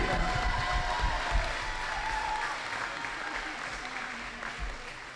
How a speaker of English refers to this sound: Let's hear one more round of applause for Lauren Wiley.